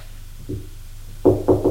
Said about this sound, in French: on frappe à la porte.